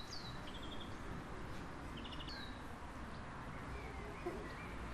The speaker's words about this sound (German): So klingt der Pausenhof, wenn die Pause vorbei ist.